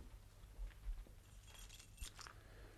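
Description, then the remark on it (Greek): A woman throws down a small bunch of keys, which land with a brief metallic jangle, a few faint clinks clustered together, fairly quiet against a low background hum with no voices. “Πέταξε τα κλειδιά η κυρία Βάρια.”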